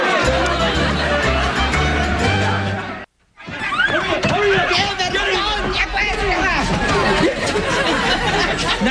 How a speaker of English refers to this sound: I sense a mood shift in the crowd!